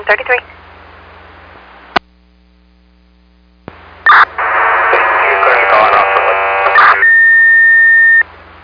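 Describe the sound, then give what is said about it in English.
Fire radio dispatch alert tones in South Haven, toning out a still alarm for a female of unknown age and unknown life status: after a couple of brief radio bursts and clicks, a dense stretch of tones is followed by one long, steady high beep held for over a second, loud. “Again, South Haven, toning out a still alarm at 0587968 Street for an unknown age female, unknown life status, still need four.”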